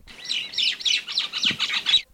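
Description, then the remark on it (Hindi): Birds sing sweetly in a steady stream of bright, high chirps and warbled phrases, lasting about two seconds with no one speaking, then fading out. “ये सोहने गुल देखो, पखिये की मीठी आवाज सुनो।”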